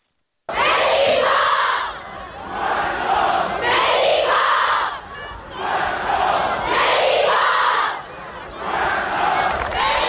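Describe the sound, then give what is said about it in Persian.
A large crowd of football fans in the stands chants loudly in unison during the Tractor versus Malavan match, their voices rising and falling in a steady repeating rhythm of about four phrases, with no other sounds breaking through. “حتی روی سکوها هواداران تیم‌های مختلف این کار انجام دادن.”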